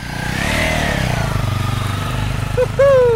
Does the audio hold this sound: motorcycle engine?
yes